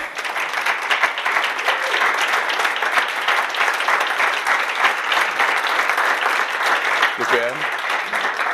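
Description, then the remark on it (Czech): An audience breaks into sustained applause for newlyweds, a dense, steady patter of many hands clapping throughout, with a brief voice surfacing near the end. “Jestli bychom zatleskali tady novomanželům, jestli byste se postavili.”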